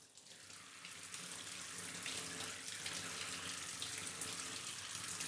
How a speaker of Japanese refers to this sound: よし、じゃあシャワーで流すから、まだ目はつぶったままでいて。